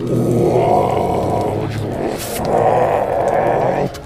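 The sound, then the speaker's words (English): A person imitates a monster's roar, a loud, guttural growl held for about four seconds with a brief dip in the middle, with no other talking. “Now, it roars, and you can just make out through the abomination of fangs that make up its mouth.”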